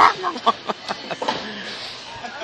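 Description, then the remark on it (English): A voice imitates a chicken's clucking with a quick string of short, punchy bok-like sounds, about a dozen pulses that gradually soften and trail off. “Because he was too chicken to talk to the guy while he was there. Bok, bok, bok.”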